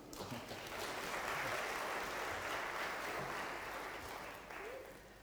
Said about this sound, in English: sure the children all deserve their applause.